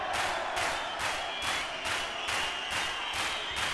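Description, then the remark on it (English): A crowd claps hands together in a steady, even rhythm, roughly two beats per second, forming a loud, dense wash of sharp claps with no talking. “Now clap your hands.”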